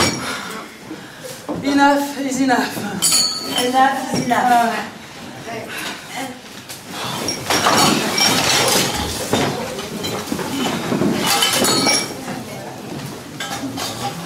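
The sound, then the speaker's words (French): Plates and cutlery clink and clatter repeatedly, sharp bright knocks of dishware that grow busier in the second half, with voices and light chuckling mixed in. “Et voilà encore des bruits d'assiettes et de couverts.”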